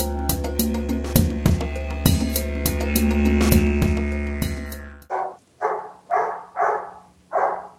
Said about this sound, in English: Well, I think my dog is chiming in on that.